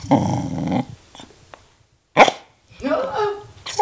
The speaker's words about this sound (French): Alors, est-ce qu'elle peut aboyer sur commande ? Oui, normalement, oui. J'ai pas de petits biscuits, mais Canel ? Aboie.